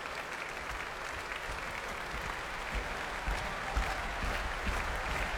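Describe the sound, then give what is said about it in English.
Heavy, sustained applause from a large arena crowd as a pianist comes back on stage for an encore, dense and loud throughout, with low thudding stamps underneath and occasional louder surges. “And to stamping and heavy clapping from the arena, he's back on stage for an encore.”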